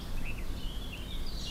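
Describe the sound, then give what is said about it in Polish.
Faint common blackbird song: soft warbling phrases drifting in and out over a steady low rumble of outdoor background noise, with no voices, heard outdoors by a church and parish house, with a park and forest nearby. “Ale pięknie śpiewają. To jakby na zamówienie. Zaraz posłuchamy, kto śpiewa. Tam kos.”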